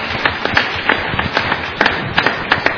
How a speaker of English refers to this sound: Frankly, if I was a teen, I would think that was a rather pathetic applause.